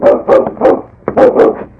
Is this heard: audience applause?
no